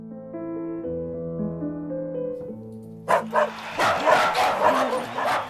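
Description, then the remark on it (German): A gentle piano melody plays for about three seconds as a poodle dances, then a couple of sharp yaps cut in, followed by a loud, busy burst of poodles yapping amid crowd applause and cheering. “Applaus, Gekläff, Jubel.”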